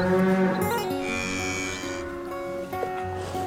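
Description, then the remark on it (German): A cow lets out a long, drawn-out moo, loud, its low droning call wavering slightly in pitch before trailing off. No one speaks. “Die Kuh.”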